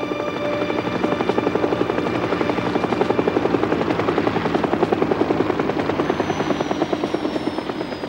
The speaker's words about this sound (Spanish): En el cielo aparece un helicóptero que sobrevuela la embajada y aterriza en un descampado próximo.